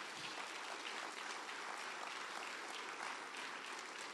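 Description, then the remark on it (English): A crowd claps steadily, a dense wash of many overlapping hand claps at a constant loud level with no pauses and no voices standing out, as an audience stands on its feet and claps during a religious service. “Clap, clap, clap, clap, clap.”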